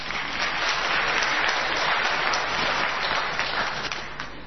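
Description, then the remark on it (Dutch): An audience at a quiz applauds steadily, a dense wash of many hands clapping at an even level for the whole stretch, with no voices standing out. “Applaus!”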